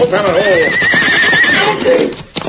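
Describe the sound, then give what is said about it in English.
A riderless horse neighs loudly as it runs away along a trail, a long wavering whinny that rises and trembles for about two seconds before cutting off, with a busy, noisy background underneath. “That horse is running away.”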